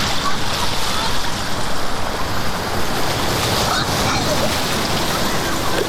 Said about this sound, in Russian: Мне так нравится, что вода поднимается сюда. Как будто она злится. Она поднимается там, а потом попадает сюда. Вода холодная.